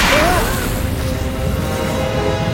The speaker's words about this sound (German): Blitz und Donner fuhren durch den Raum und ein gleißendes Licht brachte alle dazu, sich schützend die Hände vors Gesicht zu halten. Es war, als ob die Welt um sie herum explodierte.